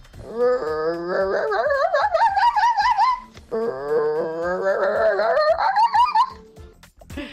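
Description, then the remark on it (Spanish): An angry fox lets out two long, harsh wailing cries, each rising in pitch over about three seconds, one right after the other. Loud, with a raspy, pulsing edge and no other sounds. “Con el número 16 tenemos a un zorro, pero enfadado.”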